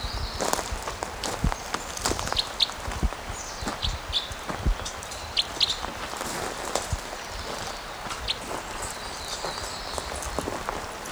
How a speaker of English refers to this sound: Okay, so I'm walking towards him again. See what we can get for flight calls.